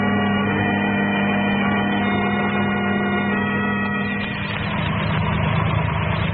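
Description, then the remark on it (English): A car engine runs with a steady, low droning hum, then its tone roughens and shifts partway through as the car slows and pulls over to the curb. No one speaks. “The car with Herbert and the girls just pulling over to the curb, Dr.”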